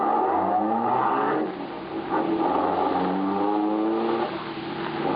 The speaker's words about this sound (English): Then, Marola in the second car, the stolen car, starts.